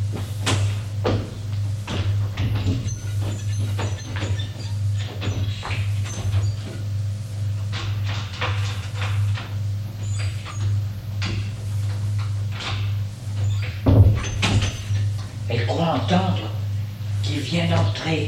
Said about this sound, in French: Malgré elle, elle entend des pas. Du bruit derrière la porte.